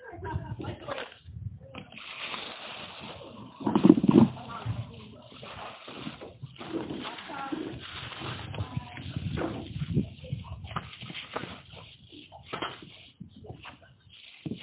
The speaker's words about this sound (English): now it is raining. Maybe we should go inside. Yeah, maybe we should. Yep. Now I'm feeling getting wet, so.